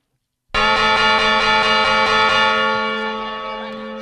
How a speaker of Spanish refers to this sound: Que comencen las campanadas de Mafalda.